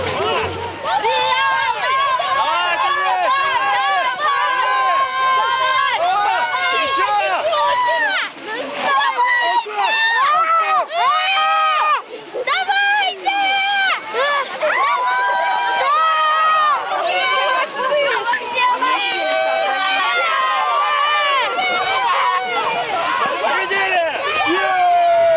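Children and their parents shout, cheer and call out over each other in a steady, lively crowd babble, with high-pitched excited cries rising and falling throughout, as they play yard games at a festival in Victory Park, part of the "My Yard, My Games" project.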